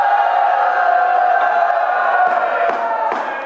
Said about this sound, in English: First it was just booing, but then it was chanting and holding up signs.